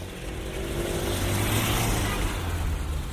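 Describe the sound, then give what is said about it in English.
A steady roar of internal combustion engine traffic fills a busy city street, with car engines droning and a low rumble underneath, dense and continuous from start to finish with no voices. “A busy city street, dominated by the din of the internal combustion engine.”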